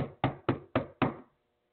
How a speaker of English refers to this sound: When one of the neighbors said they heard her banging on the door and yelling, "Open up the door." Banging on the door,